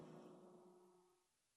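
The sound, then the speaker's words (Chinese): A single drawn-out goat bleat, steady and nasal at first, then slowly fading away over about a second and a half, heard alone and fairly quiet. “喵啊， 山羊说。”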